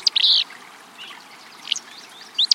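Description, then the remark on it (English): A willow flycatcher, a small gray-green bird singing from atop a nearby shrub along a stream, gives short, buzzy, sneeze-like song phrases, a burst at the start, another midway and a pair at the end, over a steady background hiss of running water. “This sneezy song belongs to a willow flycatcher, a small gray-green bird singing from atop a nearby shrub.”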